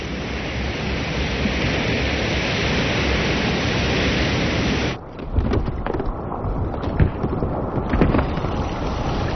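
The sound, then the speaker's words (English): Rushing rapids on a cold mountain river in its upper reaches, where streams join, roar loudly and steadily, then midway the sound turns choppier, with uneven splashes and surges of churning water. No voices are heard. “Streams join to form rivers, building in power, creating rapids.”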